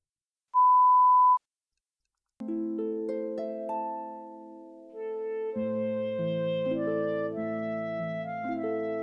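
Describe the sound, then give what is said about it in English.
A single loud electronic beep, a steady pure tone lasting about a second, signals a question to answer in a listening exam recording and stands alone before a pause; then sustained melodic tones begin and continue to the end. “Listen to the conversation and answer each question that follows when you hear a beep.”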